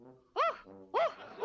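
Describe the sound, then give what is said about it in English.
A hypnotized person, told to bark like a big dog, imitates a dog's barking with three short, loud, voiced yelps in quick succession, separated by lower humming vocal sounds. “And now I'm gonna make her bark like a dog.”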